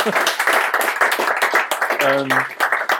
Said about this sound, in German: Mach vielleicht mal Applaus!